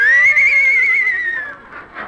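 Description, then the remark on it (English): A Mexican horse whinnies once, loud, a high wavering cry that slides gradually downward before breaking into a couple of short breathy snorts at the end. “So you're a Mexican horse, eh?”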